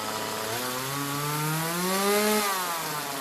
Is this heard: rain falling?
no